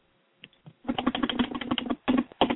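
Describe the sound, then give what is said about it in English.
Rapid typing on a computer keyboard, a few isolated key taps followed by a dense burst of clicking keystrokes, moderately loud, with no voices. “What's that? Who's typing?”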